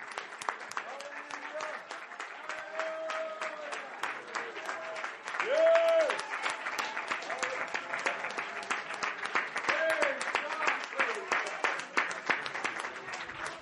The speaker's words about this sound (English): I wish somebody would clap your hands to the Lord just a little bit longer.